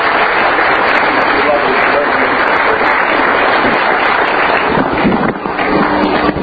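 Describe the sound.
A large church audience claps steadily and loudly to welcome a pastor, a dense, continuous wash of applause with some voices and cheering mixed in, holding strong throughout and barely easing near the end.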